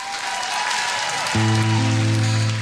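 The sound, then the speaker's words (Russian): An audience at Comedy Club Ukraine on the Inter TV channel claps steadily in a dense, noisy wash of applause. About halfway through, a loud sustained musical chord comes in over the continuing clapping. “Аплодисменты мне, мы начинаем, давайте!”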